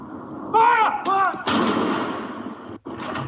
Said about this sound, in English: Batteries of cannons in London, Edinburgh, Cardiff, Belfast, and other cities fired 41 rounds.